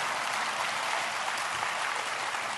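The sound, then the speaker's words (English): Thin, half-hearted applause from a small crowd, a steady hiss of scattered claps at low volume with no strong beats, lasting a couple of seconds without any voices. “That wasn't even a smattering of applause. That was almost like mocking applause, right?”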